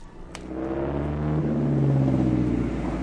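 A heavy old Daimler car engine turns over and catches, then settles into a deep, rumbling run as the car pulls away, its steady motor drone rising slightly as it gathers speed.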